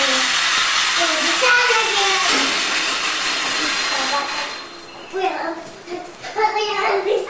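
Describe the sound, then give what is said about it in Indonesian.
A small battery-powered toy car motor whirs steadily for about five seconds while a child speaks over it, then the buzzing drops away and children's voices continue nearby. “Coba jalanin dulu. Jangan, itu bukan mobil kuda. Hah? Oh, nabrak itu dia, baterai.”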